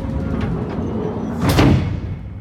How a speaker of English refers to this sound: You gotta close that door now. I ram my arm into the nook, squeeze the switch, and... the last thing I see before the engine room door closes is